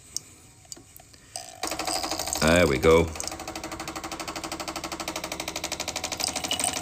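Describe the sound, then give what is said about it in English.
After a quiet start, a Tassimo coffee machine, started with one push of a button on its right-hand panel, kicks on with a rapid, steady pulsing drone that builds and keeps going, with milk dribbling into a standard size mug. A person speaks briefly over the start. “You hear it building up, and you hear the dribbling of water, or milk in this case.”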